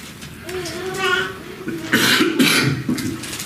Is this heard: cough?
yes